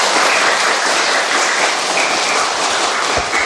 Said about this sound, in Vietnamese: Rồi, hay quá, hát cho một tràng pháo tay.